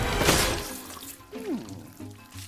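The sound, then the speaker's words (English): A brief, forceful hiss of a jet of water spraying into a man's eye bursts out for under a second, then gives way to quieter creaks and a short, sliding squeaky tone. “Horton's foot goes through the bridge as the mayor gets a jet of water in the eye.”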